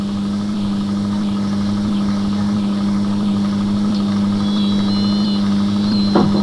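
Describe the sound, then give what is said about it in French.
A car engine runs steadily at idle, a constant low hum with a droning mid-range tone throughout, fairly loud and close, with faint high whines near the end. “Ils vont arrêter la voiture?”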